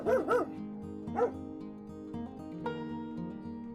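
A dog barks three sharp, loud barks at a rabbit in the snow, two in quick succession and a third a moment later, over a sustained musical background.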